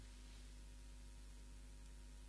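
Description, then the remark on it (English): A faint, steady hum from a heating system, low and continuous beneath a soft hiss of background noise, with no voices and no change over the short stretch. “Right now, if you listen to the sound, there's the voice and there's the quiet hum of the heating.”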